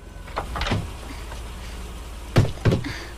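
A car's passenger door is pushed open and knocks against a tree: a couple of soft, muffled bumps, then two sharper, louder thuds, with no one speaking.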